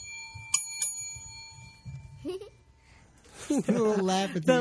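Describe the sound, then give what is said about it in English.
A small bell dings twice in quick succession, its bright tone ringing on and fading over a couple of seconds, followed by a young child's excited vocalizing. “I love the bell.”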